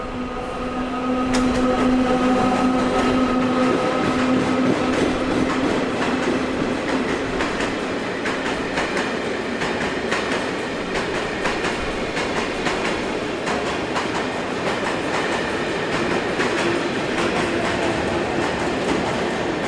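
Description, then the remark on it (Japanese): A freight train rolls slowly past platform 2 of a railway station in Taiwan, wheels clicking and clacking over rail joints in a steady rhythm, with a brief tonal squeal early on and constant loud rumble throughout. “貨物列車がゆっくり来たよ。”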